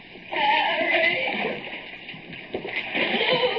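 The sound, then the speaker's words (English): Water sloshes and laps, a continuous wet churning with irregular surges of splashing, as someone moves through chest-deep water in a dark tunnel with slimy walls. “Panicky in the wet darkness, feeling around the slimy walls. Water lapping snugly at my chest.”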